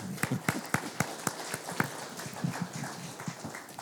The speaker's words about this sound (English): I walk up and you're applauding. I feel like you're applauding for me, but I know it was them.